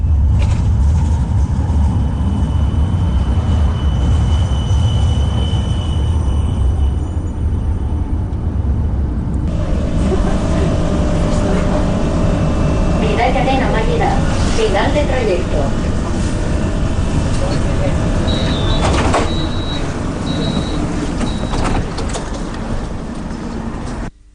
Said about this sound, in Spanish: Este es el sonido del nuevo tranvía a la universidad. Este ramal comenzó a funcionar el sábado